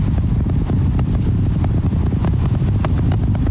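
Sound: rocket engines roaring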